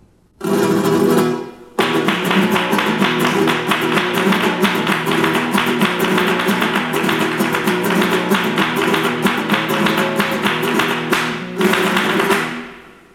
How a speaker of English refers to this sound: Now the hand clapping in the tanguillo.